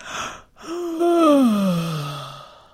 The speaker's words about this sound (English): Now, to lower your larynx, keep your fingers on your larynx and yawn.